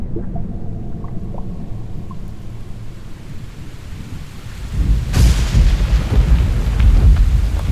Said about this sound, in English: The rain is coming.